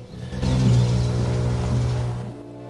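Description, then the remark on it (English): A police car and a dark limousine drive up toward a house, the low engine rumble swelling after a quiet start and holding steady for a couple of seconds before easing off. No one speaks. “He sees a police car and dark limousine heading towards his house.”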